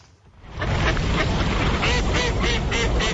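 A flock of ducks wintering in a city during frosty winter weather, quacking steadily and loudly, many overlapping calls forming a dense, continuous chorus after a brief quiet start.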